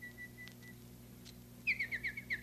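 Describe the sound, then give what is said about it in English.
A nightingale's song: a faint thin whistle, then a loud run of bright, rapid warbling trills in quick pulses, heard alone over a steady low background hum. “Oh, that one's a nightingale.”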